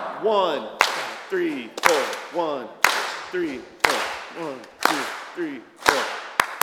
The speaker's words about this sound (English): So when I count to 3, we're gonna go zamar. And then it'll go 1, 2, 3, 4, 1, 2, 3, 4, and then we'll all just clap.